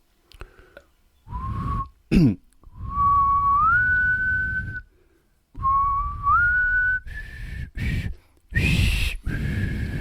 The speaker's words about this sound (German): Jetzt pfeife ich mal die Titelmelodie von seiner bekanntesten Rolle. Achtung.